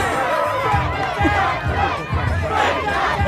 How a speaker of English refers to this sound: Wow, he's even got his own cheer.